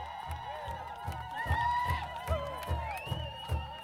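A crowd at a Native event cheers loudly and continuously because an elder withstood the wake of a boat speeding by, with high rising whoops and shouts cutting through, while a steady low thumping beat pulses underneath about twice a second.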